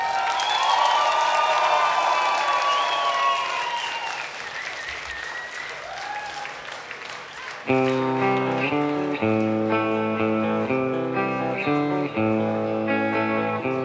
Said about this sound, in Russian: Аплодисменты не обязательно выключать.